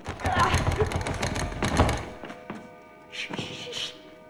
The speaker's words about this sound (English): The door handle begins to rattle.